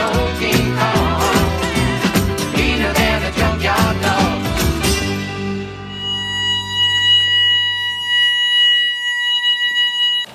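Electronic beeping from a cable car control system's self-test after the control voltage is switched on: rapid, loud pulsing tones for about five seconds, then a steady high-pitched tone that lingers and slowly fades, with no voices.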